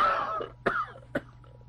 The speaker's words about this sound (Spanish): Oiga usted, esta maldita tos no se me quita con nada.